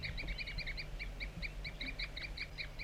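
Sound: wild bird tooping calls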